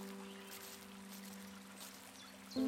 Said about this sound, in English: You hear the sound of the rain splashing on the leaves, a gentle pitter-patter of sound as the water drips from the leaves to the stream.